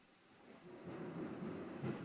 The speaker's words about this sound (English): Can you hear the thunder in the background, Mr. Producer? Oh, yeah, the bunker's under assault. Mother Nature. You're going to hear a lot more of it because there's a massive lightning and thunderstorm rolling through the bunker or around the bunker.